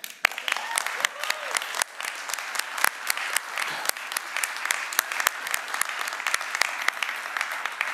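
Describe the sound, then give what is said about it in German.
Loud, dense applause from a large audience in a municipality in Germany, applauding all who engage in local politics, a steady wash of overlapping claps that continues without letup for the full eight seconds. “Und deswegen in einer der klatschfreudigsten Gemeinden Deutschlands tost jetzt mal ein donnernder Applaus aus für alle, die sich aus den richtigen Motiven kommunalpolitisch engagieren.”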